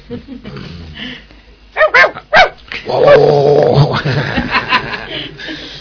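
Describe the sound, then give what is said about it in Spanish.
A dog lets out two sharp barks, then breaks into a long, rough growling snarl; softer dog noises come before the barks, and no one speaks. “Sí, de una perrita.”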